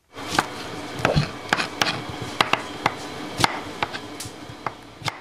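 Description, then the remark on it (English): Quick, irregular knife chops on a cutting board as a chef chops vegetables to prepare food in the kitchen of Verity Restaurant in Tamale, Ghana, sharp thuds repeating over a few seconds, with faint kitchen clatter and hum in the background and no talking. “Chef Nayabri David is in the kitchen chopping vegetables to prepare food this moment.”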